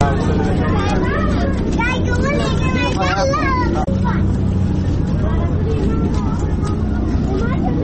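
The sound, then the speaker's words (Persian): Floodwater from recent rains runs steadily through the streets and lanes of Kabul in a constant loud rushing wash, while several people talk and call out over it and a vehicle engine hums underneath. “که با صدای آب های جاری در کوچه و جاده های کابل آغاز می شود.”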